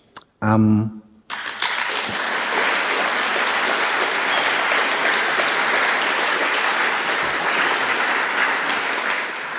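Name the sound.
audience applauding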